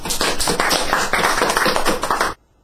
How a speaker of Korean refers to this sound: 박수로요.